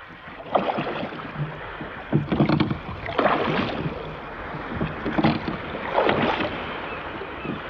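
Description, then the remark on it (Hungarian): A rowboat carrying a group of men pulls away from a ship toward the shore as oars dip and splash in a steady rhythm, roughly every second, with water sloshing against the hull under a soft wind hiss; no one speaks. “Nézze, elindultak!”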